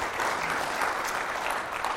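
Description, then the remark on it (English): A church audience claps steadily and continuously to the Lord in thanks, a dense wash of many hands applauding together at moderate volume, without any voices standing out. “If you believe it, clap to the Lord today and say, thank you.”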